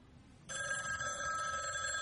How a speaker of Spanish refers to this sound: Coge el teléfono.